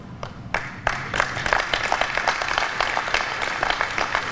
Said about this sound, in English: Are you tired of clapping?